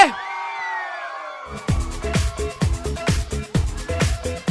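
A crowd in Cassano lets out a loud collective yell on cue after a count of three, lasting about a second and a half, then a pounding, rhythmic dance beat with heavy kick drums takes over.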